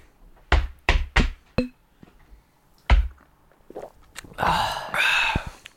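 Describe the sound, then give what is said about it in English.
Several people gulp down beer, a 450 North Brewing Company six-piece nugget New England-style IPA at 6.8% ABV, with a series of short, thudding swallows in an uneven rhythm, followed by loud, breathy sighs of satisfaction. “Let's lift our glasses and jump right into brew number one. Group gulp.”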